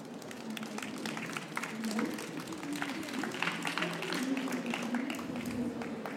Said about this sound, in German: Ja, damit haben wir die ersten drei Titel durch. Nochmal einen Applaus für die beiden Vertreter der ersten drei Titel.